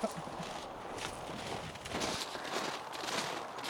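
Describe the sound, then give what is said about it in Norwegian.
A horse's hooves thud at a slow, uneven walk as it is led with a rider on its back over soft ground, with steady outdoor noise in the background. “Ja, da må du følge og leie hesten, da.”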